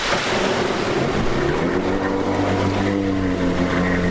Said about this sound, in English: It's a windy morning and the water is choppy, but that doesn't stop at least two jet skis from launching at the Jensen Beach Causeway. There are not many boats on the water on this day, but that will soon change when summer arrives.